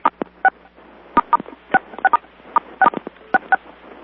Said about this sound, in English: Could everybody, let's just try an experiment for a moment. If everybody hits *6 to mute themselves, let's see if the sound goes away.